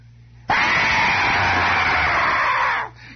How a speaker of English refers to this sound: In fact, I know one radio station out of town that is one long, unearthly, shrill scream 24 hours a day. Never ceases. Just turn it on and it is a shriek.